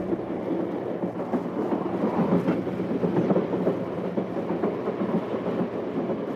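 A train rattles steadily along a single-track line toward evening, a loud continuous rumble with repeated clacking over the rails, with no voices.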